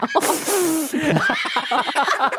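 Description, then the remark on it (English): A quick, hissy sniff bursts out at the start, sharp and noisy, followed by a stretch of voiced, chattering vocal sounds. “And a quick sniffle.”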